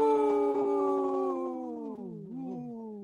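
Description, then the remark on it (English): A single long, loud wolf howl in a radio bumper on Native Roots Radio for the sponsor Howling for Wolves, holding a steady tone before sliding downward in pitch with a slight waver near the end. No one speaks over it. “Great little bumper there”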